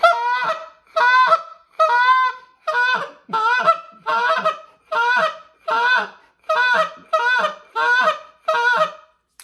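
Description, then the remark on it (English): A goose call sounds a steady run of about a dozen short, raspy spit moan notes for calling geese, each separated by a brief gap. The notes are loud and evenly paced, with no voices. “That's when I started doing that little kind of spit moan, nasty.”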